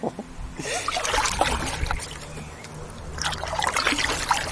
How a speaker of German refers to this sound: So, und wir paddeln jetzt los Richtung Moltkebrücke. Und das geht erstaunlicherweise ganz gut. Ich habe mir das so ein bisschen schwieriger vorgestellt, ganz ehrlich gesagt. Naja, so ein bisschen wackelig finde ich das schon.